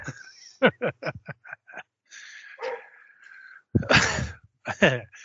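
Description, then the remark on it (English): Several of a neighbour's dogs barking in quick, sharp bursts, a rapid run of short yaps early on, then louder, longer barks answering one another, with high whiny tones between. “Listen to some dogs barking.”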